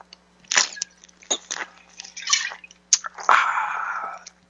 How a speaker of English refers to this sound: That sounds like running water, and that is a mighty sweet sound. That's running water, and I'm filling up a cup.